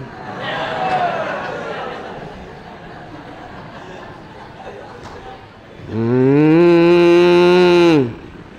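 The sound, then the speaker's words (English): Cows lowing in a farmyard at milking time around sunset, just back from the pasture: a faint, drawn-out moo early on over a low murmur, then a long, loud, steady moo for about two seconds near the end. “So he heard the beautiful, beautiful sounds of the cows.”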